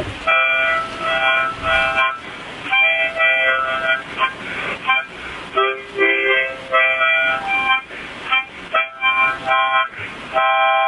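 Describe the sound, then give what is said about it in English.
A harmonica plays a lively blues tune in short, breathy phrases, bright reedy chords and held notes alternating with quick bends and brief pauses, loud and unaccompanied throughout. “Can you play anything on the harmonica?”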